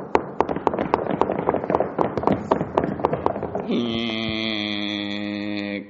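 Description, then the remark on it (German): An audience knocks along together as if knocking at a door, in a loose, ragged rhythm, many sharp raps overlapping for several seconds before a steady sustained organ-like tone takes over and holds to the end. “Nun, als sie bei Mutter Yashodas Tür anklopften, klopft mal mit an.”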